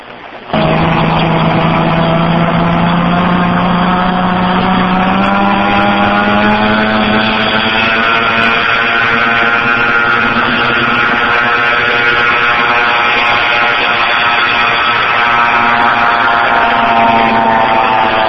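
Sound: propeller airplane engine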